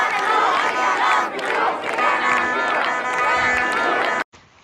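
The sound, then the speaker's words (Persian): A large crowd of protesters in Isfahan, Iran, shouts slogans in unison, voices rising and falling in loud rhythmic chanting for several seconds before it cuts off abruptly, leaving a brief quieter murmur. “اینجا اصفهانه با مردمی بیدار که دشمنشون رو شناختن و دارن فریاد میزنن.”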